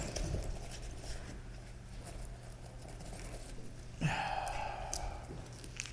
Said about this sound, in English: Let me grab myself a cough drop here before I start coughing some more.